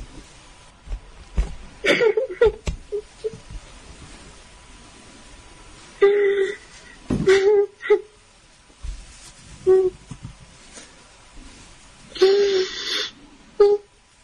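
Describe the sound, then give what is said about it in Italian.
A woman sobs in halting bursts, with breathy, wheezing gasps and strained whimpers separated by quiet pauses, and no words spoken. “Scusate se sto piangendo.”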